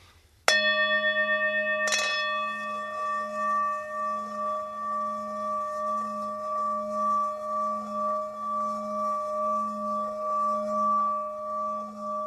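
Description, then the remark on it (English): A metal singing bowl is struck once to set it vibrating, then a second touch follows, and a sustained, pulsing hum builds as the outside edge of the rim is gently rubbed with continuous pressure, with steady ringing overtones throughout. No voices. “So I'll strike it just to get it vibrating and then just gently, with a continuous pressure, rub around the outside edge of the bowl.”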